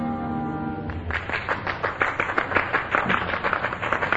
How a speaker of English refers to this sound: Oh, come on, now clap for the music. Clap for the music.